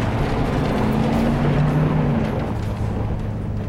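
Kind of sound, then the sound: vehicle, truck engine driving off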